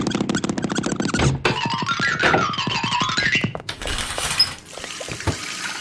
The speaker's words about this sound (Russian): В ванной. Точно, надо набрать воды в ванну.